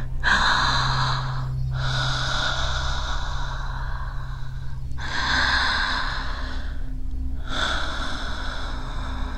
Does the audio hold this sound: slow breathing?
yes